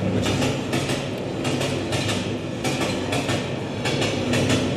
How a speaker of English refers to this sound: We do the train arriving again.